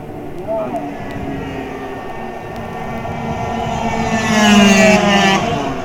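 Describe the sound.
Racing motorcycle engines, a Kreidler and a Suzuki, whine and build in pitch and volume as the bikes close in and roar past in a race, their high buzzing loudest near the end, with a muffled voice underneath.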